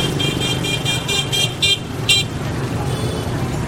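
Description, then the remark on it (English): Vehicle horns in Vietnamese street traffic: a rapid string of short, high-pitched horn toots sounds over a steady rumble of traffic, then pauses before one last honk, and the engines keep droning afterward. “And so the horns, honking the horns?”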